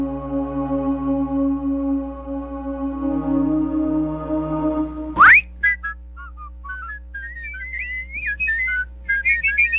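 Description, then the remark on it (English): A steady droning tone fades into a quick rising swoop, followed by a clear, close whistled melody of short bouncing notes and a few longer held ones, with no talking. “Whistling means that melodic tune must mean it's time for another episode of Philosophy by Marcus Tenacious Noggin.”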